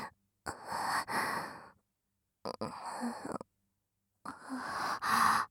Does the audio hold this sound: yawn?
yes